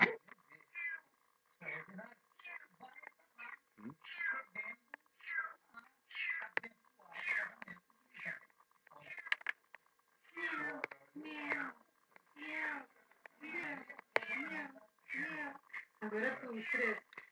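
A cat meows repeatedly in a long, insistent series of short, wavering cries, loud, with brief pauses between calls and no other sounds competing.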